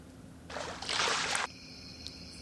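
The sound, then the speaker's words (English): A burst of splashing water lasting about a second, like feet kicking through shallows as someone prances around in the water, then fading back to a quiet background with a faint steady high tone. “So I'm just going to prance around in this water.”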